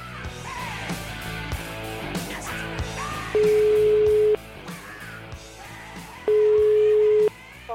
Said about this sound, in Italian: La telefonatina la facciamo, dai, fatemi squillare il telefono di questo Bau Bau.